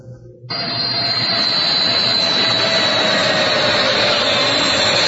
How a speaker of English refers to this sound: I thought you were really going to test me here. I really did. It's an airplane. That's all.